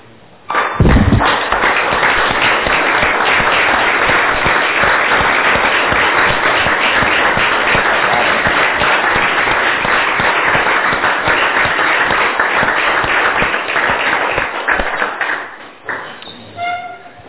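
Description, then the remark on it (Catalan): A group of people stand and applaud the newly elected justice of the peace of Montblanc for the next four years, steady for about fourteen seconds, the dense clapping starting abruptly with a thump and tapering off into a few scattered claps and room noise. “jo només vull agrair doncs, a tots els que han participat en aquesta elecció i jo crec que ens correspon doncs, que ens posem de peu i fem un aplaudiment al jutge de Pau de Montblanc dels pròxims 4 anys.”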